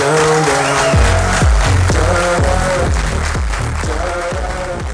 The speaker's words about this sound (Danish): Det lyder jo bare mega fedt, og klapsalver og musik, det kan næsten ikke blive bedre.